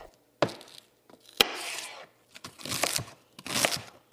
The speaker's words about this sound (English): is in the kitchen chopping celery for the chicken and sausage gumbo that's bubbling on her stove. What we're doing is we're starting to saute the vegetables, the trinity. What we call the trinity is celery, bell peppers, and onions.